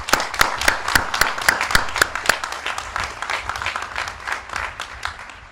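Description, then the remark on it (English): A commencement crowd of graduates, family and friends breaks into applause for each other, dense overlapping claps with a few sharp louder hits early on, sustained at a steady level for several seconds before beginning to thin slightly. “Please give each other an enthusiastic round of applause.”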